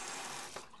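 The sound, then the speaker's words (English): A steady hiss of water pouring from a faucet into a sink as a mother washes her hands, continuous, with a brief splash change as hands move under the stream. “Mommy's got to wash her hands.”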